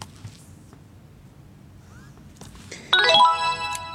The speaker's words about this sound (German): Ich muss warten, bis ein leichter Vibrierton kommt und dann dieses Signal. Das kann man allerdings auch aus- und umstellen.